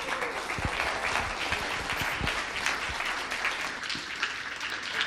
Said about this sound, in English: so let's give her a big round of applause for ….